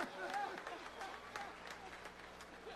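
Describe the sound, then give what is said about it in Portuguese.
A crowd applauding steadily for a musician for a few seconds, dense overlapping claps at moderate volume, with some faint voices and cheers mixed in beneath. “Uma salva de palmas, então.”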